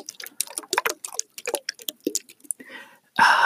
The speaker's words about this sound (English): So I have this spray bottle that's just filled with water. Even though it's just water, it makes a pretty nice bassy sound.